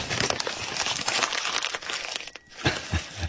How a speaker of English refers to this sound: he said as he crumpled them up.